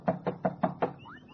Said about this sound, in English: Bang on the door again